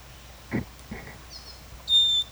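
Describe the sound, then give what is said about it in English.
Several short calls of wild birds, one of them a female: a couple of soft chirps, then a brief high twittering, ending in a louder, clear, high-pitched whistled note. No talking. “These are all wild birds.”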